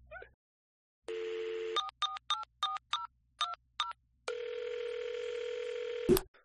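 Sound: telephone dialing tones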